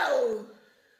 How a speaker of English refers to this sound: It goes on for about 2 minutes, but I'll just... I'll give you a little taster here. It's just a gran who's sneezing a lot, like a lot of people are today.